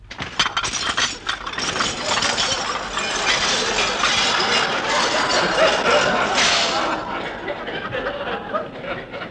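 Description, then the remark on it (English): A sustained clatter of breaking dishes and clinking crockery as a new dishwashing machine breaks the dishes, dense and bright, with sharp cracks at the start and a brief louder burst near the end before it fades. “I don't see why it should break the dishes.”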